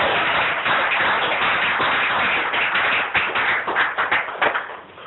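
A crowd applauds with dense, continuous clapping that holds steady for several seconds, then thins into scattered individual claps as it tapers off at the end.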